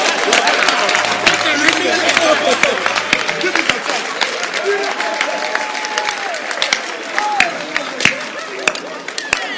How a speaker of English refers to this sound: Clap your hands for him.